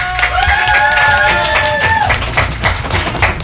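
People applaud with steady, dense clapping for a few seconds, loud throughout, with a sustained high whistle or whoop riding over the first half.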